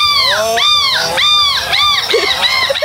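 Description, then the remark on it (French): A woman's voice mimics a seagull, letting out a rapid run of about six high, arching squawks, loud and strident, with only brief gaps between them. “Ça, ce n'est pas une vraie mouette. C'est une imitatrice de mouette.”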